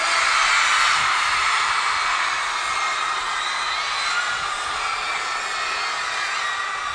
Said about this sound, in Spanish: Vamos a hacer una cosa, las mujeres, quédense gritando para que le rompan el tímpano al corillo. ¡Las mujeres!